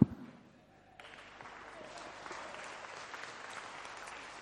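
An audience breaks into applause on Easter Sunday, applauding Christ for the news that Jesus is alive. Dense clapping swells after a quiet moment and continues steadily and fairly loudly to the end, with a faint voice at the very start.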